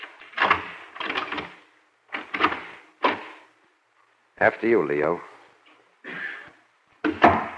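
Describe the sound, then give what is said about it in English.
A locked apartment door is tried with a few sharp rattles and clunks of the handle before it gives way. A man speaks briefly, followed by a couple more knocks and shuffles. “The door's locked. Maybe it isn't. Let me see.”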